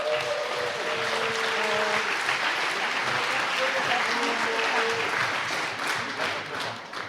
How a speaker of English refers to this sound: So we have all the teams here, and we're going to start you off with Team Nook. There you go. Give them a great, great hand of applause.